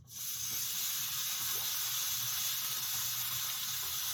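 A pot boiling over onto a hot stove gives a steady, unbroken hiss and sizzle, with a faint low bubbling underneath that holds level for the whole stretch.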